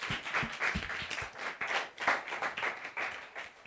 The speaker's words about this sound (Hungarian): Hú, négyen is vannak itt Budapestről. Tapsoljuk meg őket, hogy eljöttek.